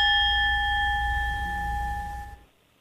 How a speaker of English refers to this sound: That was an awful big bell.